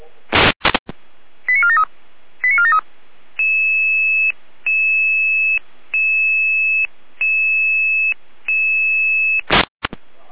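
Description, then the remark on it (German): A fire brigade radio alerting tone sequence from the Jena control centre in Germany: a few sharp clicks and quick chirping tone groups, then five long, steady electronic tones with brief gaps between them, loud and clear with no voices. “Alarmierung?”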